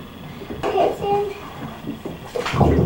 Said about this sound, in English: Okay, then? I'm going to fill it with water.